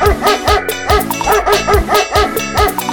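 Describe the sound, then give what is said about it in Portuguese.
A dog barks loudly and repeatedly in a quick, steady rhythm, several sharp yaps in a row, with a thumping musical beat running underneath. “Já vê esse cachorro de novo, hein?”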